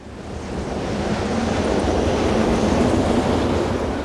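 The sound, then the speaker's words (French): Loud, stormy sea with waves surging and crashing continuously, a dense roaring wash of water and wind, steady and unbroken with no voices. “Sans avoir eu le temps de pleurer notre ami, nous étions déjà pris dans les vagues d'une terrible tempête.”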